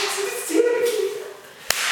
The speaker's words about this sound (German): Also bei der Gruppe muss ich mal dreimal klatschen. Das erste Mal klatschen bedeutet, hey, die Szene beginnt gleich.